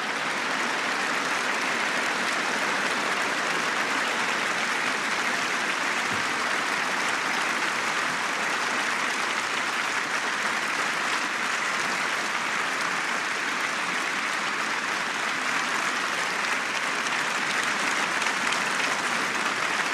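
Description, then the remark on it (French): Sustained applause from about a thousand guests, dignitaries and public in the courtyard of honour of Les Invalides after Emmanuel Macron's funeral eulogy for Jean-Paul Belmondo, a dense, steady wash of many hands clapping at even loudness for the whole stretch, with no voices standing out above it. “Les applaudissements des invités, des personnalités, du public, nombreux publics, un millier de personnes dans la cour d'honneur des Invalides après l'éloge funèbre prononcé par Emmanuel Macron, éloge à Jean-Paul Belmondo”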